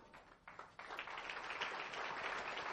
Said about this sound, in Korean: 네, 큰 박수 부탁드릴게요.